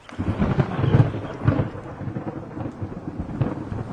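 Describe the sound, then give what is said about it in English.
Heavy rain pours down steadily on a forest, rustling the leaves, while deep, rolling thunder rumbles, swelling in low booms over the constant hiss of the downpour. No voices are heard. “Thunder boomed and a hard rain fell, causing the leaves above them to rustle.”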